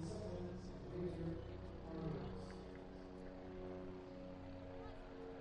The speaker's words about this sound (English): As a helicopter floats overhead.